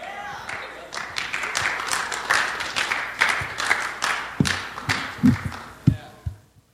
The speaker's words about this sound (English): Hello. Hey, thanks for that clap. Why'd you stop?